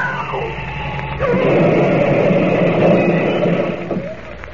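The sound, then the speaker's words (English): A rickety old car's engine and a sliding screech as it turns off a dusty road give way to a loud, sustained crash of grinding, rumbling noise that holds for a few seconds before fading slightly at the end. “I've got to turn off the road! We're going to crash!”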